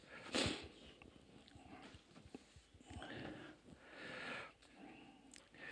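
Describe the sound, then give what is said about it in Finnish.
A few wet nasal sniffles, short breathy bursts with a stronger one near the start, over a soft rustling background. “Niiskuttaminen jää nauhalle nimittäin.”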